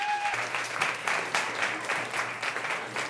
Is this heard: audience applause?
yes